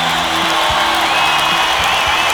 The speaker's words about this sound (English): Here we hear the people cheering for the liberation and the freedom.